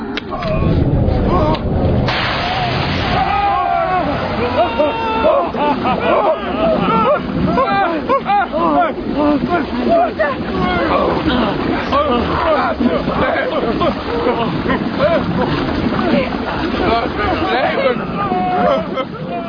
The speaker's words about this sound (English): Now there was an abundance of water. We filled our flasks, but we did not need to. The hole in the wall caused a stream to flow down our tunnel.